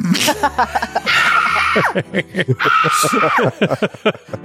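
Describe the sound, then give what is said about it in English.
Two harsh, drawn-out fox screams, each lasting about a second, ring out loudly one after the other, echoing in a room, with a voice speaking underneath and between them. “Fox screaming, echoing in the room.”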